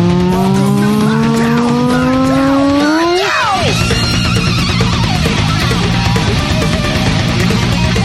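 An electric guitar solo with a bright, buzzy tone that climbs slowly in pitch, swoops sharply at about three seconds, then gives way to dense, noisy playing, sounding like an old video-game machine.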